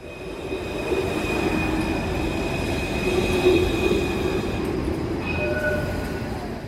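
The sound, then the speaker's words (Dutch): A Melbourne tram or train rolls along the rails with a steady, loud rumble, while a thin high-pitched wheel squeal whines continuously above it. No one speaks. “De trams, treinen en bussen van Melbourne vervoeren dagelijks miljoenen mensen door de drukke stad.”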